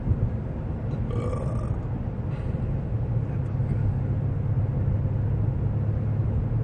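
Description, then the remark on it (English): Steady low road rumble inside a moving car on a straight four-mile stretch of road, a continuous loud drone with a few faint higher rattles near the start and no voices. “Oh, trust me, if like I was by myself and we were in Wisconsin, I would be doing 70 right now.”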